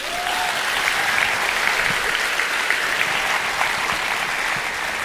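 Steady applause from a group for a woman being praised fills the whole stretch, dense and even clapping at a consistent level without any talking over it.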